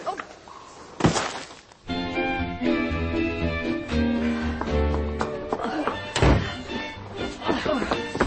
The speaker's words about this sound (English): He's squirming. Knock him out, then. Hit him hard.